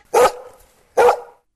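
A dog barks twice, two sharp, loud woofs about a second apart, each trailing off into a short ringing tail, with no voices around them.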